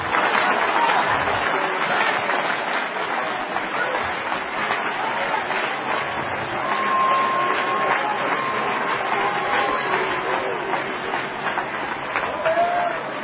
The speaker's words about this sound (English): Clap your hands. Come on.